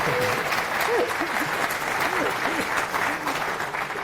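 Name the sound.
audience applause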